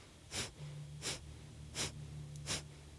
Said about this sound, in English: So your exhalation is active, your inhalation is passive, and it goes through your nose, and your nose creates a vacuum. So you breathe out as you're drawing your belly back, and your exhalation is active, your inhalation is passive.